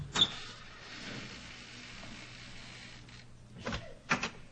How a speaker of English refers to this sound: Well, Louis, here we are, the Van Schuler estate. Come on, we'll go in through the front door. I'll open it.